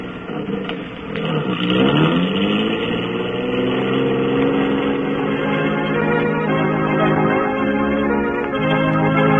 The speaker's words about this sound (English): Those two green lights with the cars just pulling away.